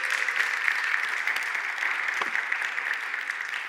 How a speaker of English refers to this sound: Everyone give her a big round of applause.